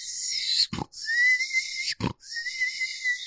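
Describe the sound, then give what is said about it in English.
A person imitates an animal's shrill, squealing death whistle: a long, piercing high-pitched wail broken twice by short, harsh gasping breaths, loud. “It made its telltale death whistle.”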